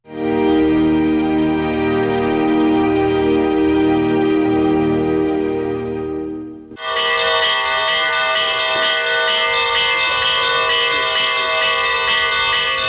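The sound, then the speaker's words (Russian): Church bells of the Olenevka church in Penza District peal loudly and continuously to welcome the ruling bishop, with deep heavy bells ringing first, then a brighter cluster of higher bells taking over midway in a dense, festive chime. No voices. “Колокольным звоном встречала правящего архиерея Оленевская церковь Пензенского района.”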